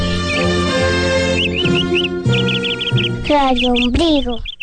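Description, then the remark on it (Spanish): Small birds chirp in quick, repeated bursts of high twittering notes, heard over a loud, sustained tonal backdrop that shifts pitch a few times. “El que siembra arbolitos, cosecha pajaritos. Bio, bio, bio, bio, bio.”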